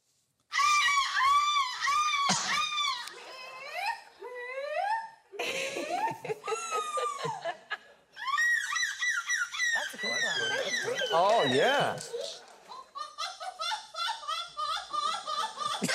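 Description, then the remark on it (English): Several contestants at an annual seagull screeching contest in Belgium take turns imitating seagull screeches, shrill wavering cries rising and falling in quick bursts, one after another, loud with no pause between imitators. “Belgium, is trying to improve the negative image of seagulls by holding an annual seagull screeching contest”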